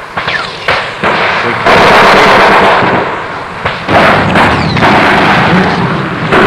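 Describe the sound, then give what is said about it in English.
Dense, heavy enemy gunfire from the front crackles and booms almost without pause, loud throughout, with sharp cracks breaking through and a few brief whining streaks of ricochets sailing past. “Very heavy fire to our front.”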